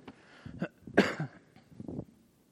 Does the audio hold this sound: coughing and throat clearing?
yes